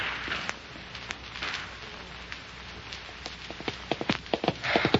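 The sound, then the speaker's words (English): Galloping hooves of a mare ridden hard to outrun pursuers, with half a mile lead, thud in quick, uneven beats over a steady noisy hiss, growing louder and more frequent toward the end. “Come on, girl. Nose them out. Come on. Half a mile lead. Come on, that's a good horse.”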